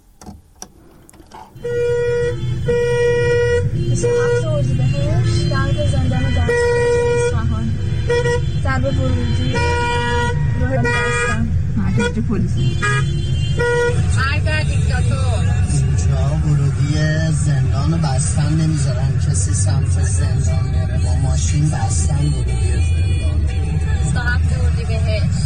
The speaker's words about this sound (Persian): ترافیک جلوی زندان دستگرد نگاه کنید، تازه هنوز اینجا نرسیده به زندانه.